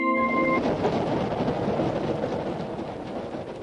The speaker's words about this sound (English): Bobby ran to a window and waved to his mother as the train pulled out of the station.